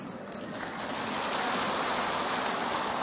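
A crowd applauds in a steady, dense wash of clapping that swells slightly and holds at an even, fairly loud level throughout, with no voices heard.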